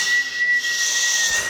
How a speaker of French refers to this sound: J'entends le grincement des freins qui se décollent des rails, le crissement des roues. Les moteurs tournent à plein régime. Direction l'Angleterre.